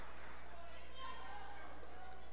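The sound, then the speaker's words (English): A basketball is dribbled on a hardwood court in a women's game as the ball is held out for the last shot. The bounces are muffled beneath a steady wash of arena crowd noise, with an announcer talking over the action. “Holding this out for the last shot, dribbling around to Hamilton.”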